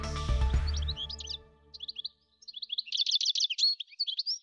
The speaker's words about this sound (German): Sie hörten gerade den Stieglitz, Vogel des Jahres 2016.